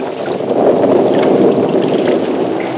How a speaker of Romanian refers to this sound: Ia privește norii aceia ce se învârtejesc la orizont. Da. Ia furtuna!